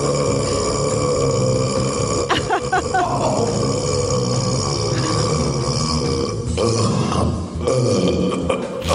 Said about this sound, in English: One of the things I worry about is that if I burp with too much force, that all of a sudden, you know, what could be a 12-second burp will be condensed into an 8-second burp.